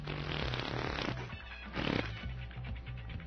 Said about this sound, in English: All right, give me a real loud fart sound. Oh, I love that.